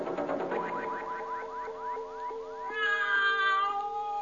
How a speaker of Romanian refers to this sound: Pisica. Pisica, ai pregătit-o? Așa. O am aici în sac. În sac.